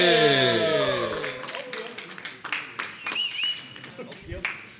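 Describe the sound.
An audience breaks into applause, with scattered claps rising as a short musical sting fades out, while voices and cheers mix in near the end.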